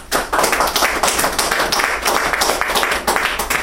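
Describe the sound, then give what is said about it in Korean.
A lecture audience applauds steadily to welcome a speaker, a housewife in her 30s giving a testimony about recovering from gambling, many hands clapping in a dense, continuous wash that stays loud and even for several seconds with no voices over it. “우리 박수로 환영합시다.”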